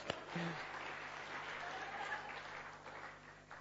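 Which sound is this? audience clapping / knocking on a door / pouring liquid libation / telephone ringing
audience clapping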